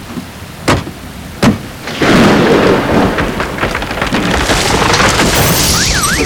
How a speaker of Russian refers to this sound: Дождь какой, ничего не видно.